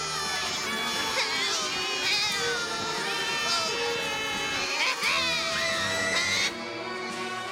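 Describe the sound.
Several young, high-pitched voices scream and wail together after falling into a murky swamp, in a loud, overlapping, continuous chorus of distress that eases slightly in the final second.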